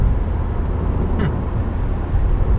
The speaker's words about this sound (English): I'm impressed. I'm surprised that I'm so impressed. What a nice feeling car this is.